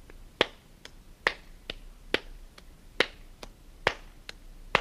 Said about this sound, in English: Now what I'd like to have you do is to take those same claps and this time group them into twos by making one of them louder than the other. Here we go.